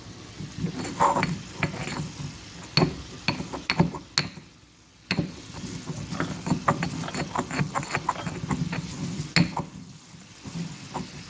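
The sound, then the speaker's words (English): Grinding spices, including fennel, with a mortar and pestle for a sausage recipe, with the phone held close to the mortar: a steady gritty scraping broken by irregular sharp knocks of the pestle against the bowl, repeated throughout at a moderate loudness with no one talking. “I don't know if you can actually hear that, but I'm going to put the phone closer to the mortar and pestle.”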